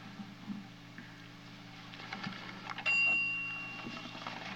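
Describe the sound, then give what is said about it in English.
A single bright timer bell strikes partway through and rings on, its tone slowly fading over a low, steady hum, with no talking. “I just beat the bell.”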